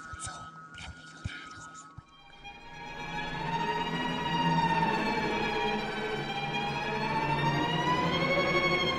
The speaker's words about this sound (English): Ladies and gentlemen, that scream of delight you heard is not terror, but joy, because we have a very special episode of Weird Things for you tonight.